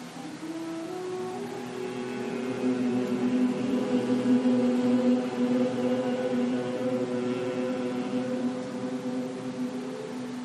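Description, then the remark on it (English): A steady, low-pitched human hum held for about ten seconds during a yoga session, one round of Bhramari (humming bee breath) done lying down: a continuous nasal drone imitating a bee's buzz, with one sustained breath of even loudness and no talking. “One round of Brahmari, sound of the humming bee.”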